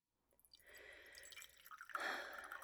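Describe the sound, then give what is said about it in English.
Liquid is poured into a cup, a steady trickling splash that swells louder partway through and keeps running to the end, with no voices. “Here, let me pour you a cup.”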